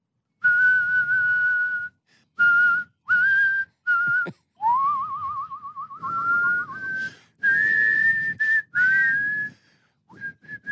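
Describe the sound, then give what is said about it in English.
Someone whistles a melody, with clear sustained notes in short phrases, one passage wavering in a quick trill, separated by brief pauses; no talking over it. “Now, what's the deal with you and your whistling?”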